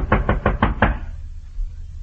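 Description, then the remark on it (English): Five quick, firm knocks on the door at a rear porch in a steady rhythm, loud and hollow, then a low murmur of background noise with no voices. “I reached the door, finally, and knocked.”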